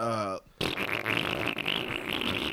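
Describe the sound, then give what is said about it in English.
A brief voiced note, a short pause, then a person blows a long, loud, buzzy raspberry, imitating a farting sound that sputters steadily for about two seconds. “So it makes a farting sound.”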